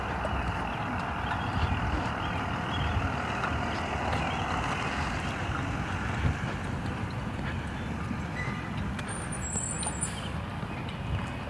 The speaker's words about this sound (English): comes the school bus. Good morning, Mr. School Bus.